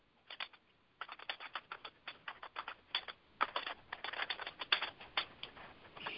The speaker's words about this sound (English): You hear me typing because I'm making notes to myself.